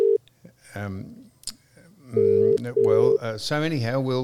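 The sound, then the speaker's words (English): A phone's ringback tone sounds a clear double burst in the middle, two short steady buzzing rings with a brief gap, with voices talking before and after it. “Give him another go, Max. Just one more go and then we'll hang up.”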